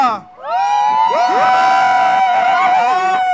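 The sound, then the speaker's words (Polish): A large group of pilgrims, the Green Group, shouts, claps and squeals together in a loud, sustained burst of high-pitched cheering, many overlapping voices rising after a brief dip and carrying on energetically as they greet Radio Rodzina. “Krzyczymy, klaszczemy, piszczymy, rączki w górę i machamy, dobrze?”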